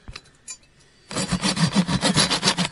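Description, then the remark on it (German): A hand saw cuts through a wooden beam in quick, rhythmic back-and-forth strokes, each stroke a loud rasping scrape, starting after a second of a few faint taps and continuing steadily until the beam is cut through. “Sauberen Cut, wir haben jetzt den Balken gespalten.”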